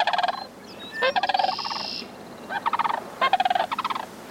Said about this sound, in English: Most cranes, like these sandhill cranes, duet with prospective partners for years before they begin breeding.